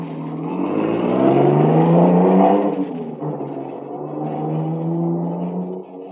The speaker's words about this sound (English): They all pile into the car and take off through the village, supposedly after me.